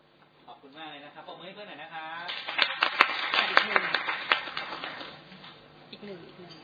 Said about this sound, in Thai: ยังไม่ครบนะครับยังขาดอีกคนหนึ่งนะครับเชิญครับเชิญเลยครับปรบมือหน่อยนะครับ